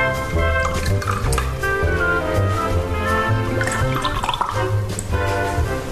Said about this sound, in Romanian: Bei un vin? Pune-mi 2 degete.